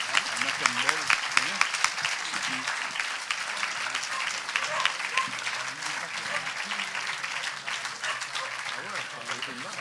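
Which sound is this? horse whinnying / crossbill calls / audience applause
audience applause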